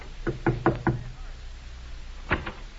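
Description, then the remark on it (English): Four quick, solid knocks on a door, a pause of over a second, then two more knocks. Clear, with no voices and only a faint background hiss. “Say, there's someone at the door.”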